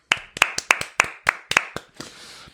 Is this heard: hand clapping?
yes